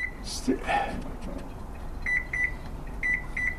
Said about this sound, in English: D'Ambrosia struggles to program the finicky oven timer.